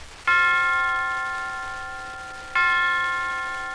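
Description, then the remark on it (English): A radio program chime rings out twice in 1947, marking the start of the program's 11th year, each bright, bell-like tone struck cleanly and left to ring and fade slowly, with about two seconds between them and no voices. “And now it's 1947, and today the chime symbolized the start of our 11th year.”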